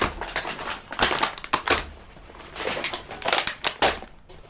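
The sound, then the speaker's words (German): A plastic bag crinkles and rustles in a run of irregular crackling bursts as items are pulled out of it to go into a freezer, with no talking. “Gut, wir machen gleich mal mit der Tüte hier weiter.”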